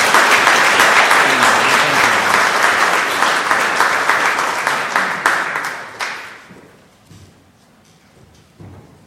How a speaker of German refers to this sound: Ja, ganz toll. Herzlichen Applaus für deine Arbeit. Danke schön.